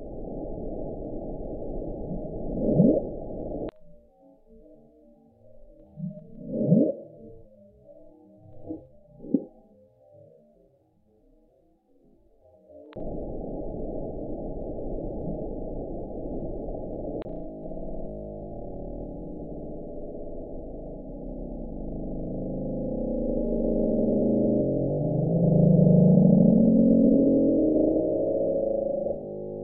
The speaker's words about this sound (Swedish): Och det är att man har tagit upp mycket ljudupptagningar från botten. Och när man har varit där nere med de här mikrofonerna så har de fångat upp väldigt, väldigt konstiga grejer.